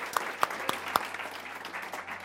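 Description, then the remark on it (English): A crowd applauding, a dense, steady wash of clapping with a few sharper individual claps standing out in the first second; no one speaks. “This is a loud crowd.”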